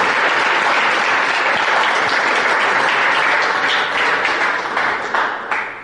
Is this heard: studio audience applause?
yes